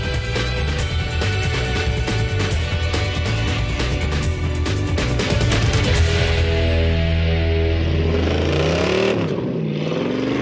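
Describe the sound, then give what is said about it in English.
A 1993 Cobra sports car engine runs loud, a steady throaty drone that climbs and dips in pitch near the end as it revs, with no talking. “This is our 93 Cobra.”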